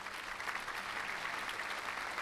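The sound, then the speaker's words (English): A steady burst of applause from a crowd, dense and even clapping filling the whole moment at a moderate level with no talking over it. “Let me give you a round of applause for that one.”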